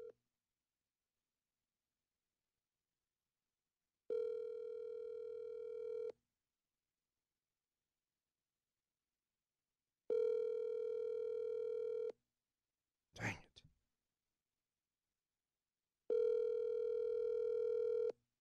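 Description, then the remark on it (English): An outgoing phone call to the caller's wife ringing out: three steady, buzzy ringback tones, each about two seconds long with long silent gaps between, plus a brief click partway through. No one speaks. “Are you calling your wife?”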